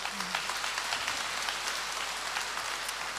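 A dense, steady wash of applause from many hands clapping at once, holding an even level for about three seconds with no clear voices on top.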